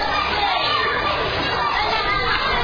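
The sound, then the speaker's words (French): A dense, continuous din of many children shouting and calling out at once while playing at a play area during the school holidays, steady and fairly loud throughout with no single voice standing out. “Ces cris expriment la liberté, la joie de s'adonner à ce qu'ils aiment le plus au monde, s'amuser.”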